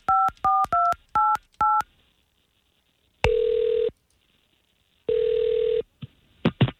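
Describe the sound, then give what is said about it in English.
Five quick touch-tone beeps dial a number for a call placed live on air by a K92.3 morning radio show, followed by two long, buzzing ringback tones with pauses between them, then a brief clatter as the line is picked up. “nothing that you want to tell us before we get her on the phone.”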